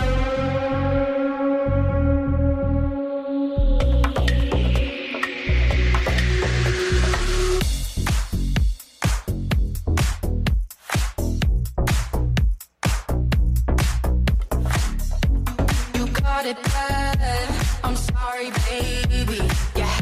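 A country pop song plays from a jukebox, opening with sustained, swelling tones before a steady, driving beat kicks in and carries the music along loud and full, with no talking over it.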